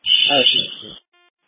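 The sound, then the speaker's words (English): A loud, piercing burglar alarm tone blares steadily for about a second, with a voice muffled underneath, then cuts off, leaving a faint brief electronic tone. “Well, shut the burglar alarm off. I've asked you to see if we could probably silence it.”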